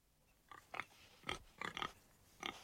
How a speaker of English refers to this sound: What are you doing to that pig? You rub the backs of the stick and they go into a sort of trance.